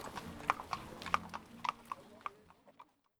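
Horse hooves clip-clop on a hard surface in an irregular run of sharp knocks during a festive horse pilgrimage around St George's Day up to the Senftenberg chapel above the village, thinning out and fading toward the end over a soft background murmur.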